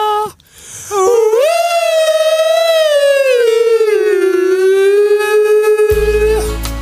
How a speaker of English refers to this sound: That fire alarm going.